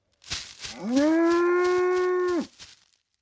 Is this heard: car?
no